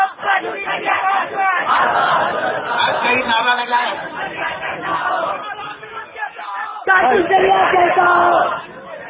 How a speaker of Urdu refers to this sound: بڑے شانتی پوروک کے ساتھ تم نے تقریر سنی نعرے نہیں لگائے. اب نعرہ ایسا لگایا تم نے کہ جو بر وقت نعرہ ہے یہی نعرہ ہم کو اچھا لگتا ہے.